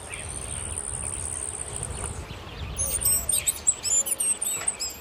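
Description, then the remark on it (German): High, thin insect-like buzzing trill for the first two seconds, then a rapid series of sharp, squeaky chirps from the world's smallest hummingbird, 63 millimetres long from beak to tail tip, fairly loud over low background rumble. “Ein Kolibri, oder? Richtig.”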